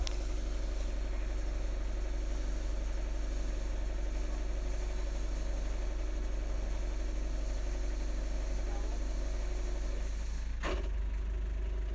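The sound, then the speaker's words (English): A sailing boat's engine idles steadily while the boat is being moored and lines are tied up, a deep continuous rumble with a throbbing mechanical hum, broken near the end by a single brief knock. “I'll switch the engine off in a minute.”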